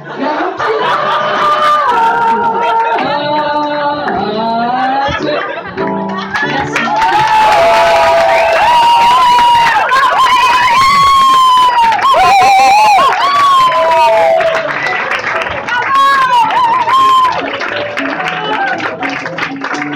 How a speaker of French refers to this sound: Je crois qu'on peut l'applaudir bien fort.